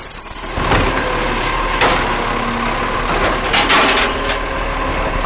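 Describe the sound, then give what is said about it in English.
A heavy garbage truck engine in Australia rumbles steadily while sharp clanks and bangs break through as its mechanical arm grabs, lifts, weighs and empties bins, with a brief high-pitched whine at the start. “So that little noise there was the garbage trucks in Australia.”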